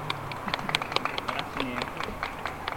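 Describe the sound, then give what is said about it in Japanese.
An audience breaks into applause for the leader of a singing group during a live performance: a steady, dense patter of many hands clapping for a few seconds, with some voices mixed in underneath. “リーダーに拍手。”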